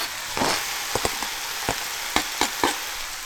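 Steady hissing sizzle of browned meat frying in a pan as finely diced fresh red pepper and finely chopped garlic are added, broken by several sharp crackles and pops at irregular intervals. No voices are heard.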